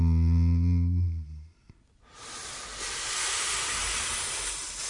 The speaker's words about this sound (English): The sound of the city's hum.